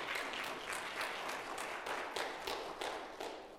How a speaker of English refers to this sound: Now that you've clapped for Carrie, the rest of you appreciate Brother Al Ray.